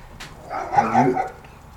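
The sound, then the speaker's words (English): A dog in the background barks once or twice in a short, moderately loud burst with no one talking, then it goes quiet again. “I love dogs in the background.”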